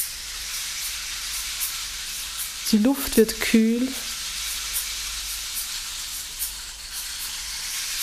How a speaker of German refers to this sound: Und aus der Ferne hörst du Wasser rauschen. Immer näher kommst du dem Geräusch. Immer lauter hörst du das Wasser.